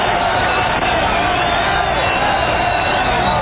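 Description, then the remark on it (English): A large crowd in an opposing team's ballpark stands and cheers the pitcher Schmidt in a steady, unbroken roar, a loud dense wash of many voices holding at the same level for the whole few seconds, with no one speaking clearly over it. “I haven't either, and we're in an enemy ballpark, and they're standing cheering Schmidt, the pitcher.”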